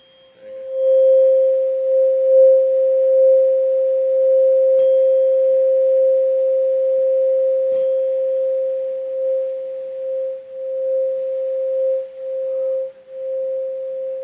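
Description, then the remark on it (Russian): A single steady pure tone holds one mid-pitched note for about fourteen seconds, loud and unwavering, with faint clicks and slight wobbles in level toward the end. No one speaks. “That's the 528 frequency.”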